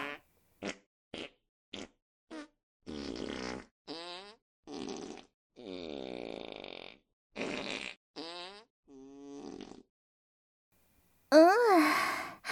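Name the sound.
fart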